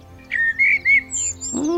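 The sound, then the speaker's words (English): A small bird chirps in a quick series of bright, high tweets and whistles, ending with a brief lower warbling note. “My thoughts exactly, little bird.”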